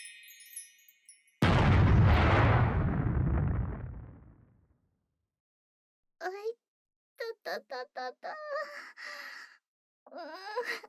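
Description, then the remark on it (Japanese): A loud, booming explosion sound effect in an ad for the game Ohime-sama Connect, going off right after a summoning; it bursts in suddenly after a brief electronic tone, rumbling and slowly fading over a few seconds, followed by a pause and then a voice speaking. “なんで呼び出されてすぐに爆発するのですか。”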